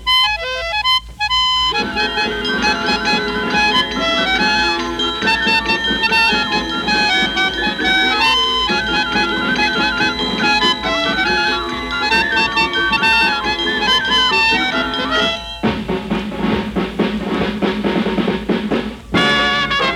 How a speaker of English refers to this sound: We'll play jingle bells for you on toy instruments.